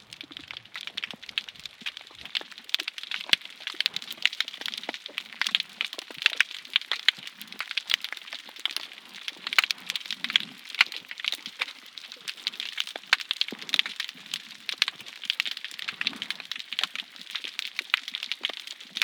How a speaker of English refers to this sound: And larvae of different animals, part of the plankton, swimming in open sea would detect those sounds and choose their living habitat according to the sonic animation. The sound of healthy coral is a sign of life, of a safe shelter, promise of food.